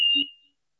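A single electronic telephone beep, a steady high tone that sounds briefly and then fades out, heard alone with no talking, while a telephone call is being connected.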